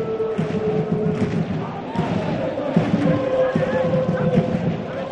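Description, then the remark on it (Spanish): Eldense football fans in the supporters' stand right behind the goal keep up a steady, dense roar of chanting and shouting during an Eldense corner against Huesca, with occasional thumping beats and a few louder individual shouts cutting through. “pero está justo la grada de animación detrás. Por eso se oye más a los fans del Eldense.”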